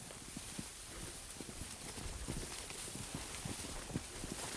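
Quick, steady footsteps tramp through wet, tall grass, each step a soft squelching thud amid a continuous swishing rustle of stalks. The sound is close and unbroken, with no voices.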